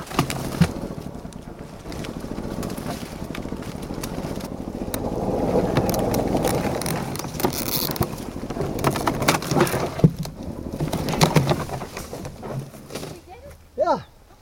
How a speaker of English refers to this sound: It was time for plan B, golf cart as tow truck, and I'm the tow truck driver.